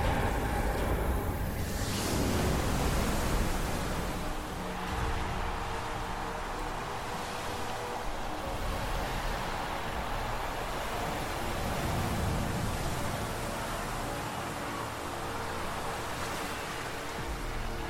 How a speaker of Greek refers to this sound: δίνει το χρόνο για να ενταθεί η αναμονή του νερού, του πολύτιμου νερού που θα το ακούσουμε σαν καταράχτης να χαρίζεται.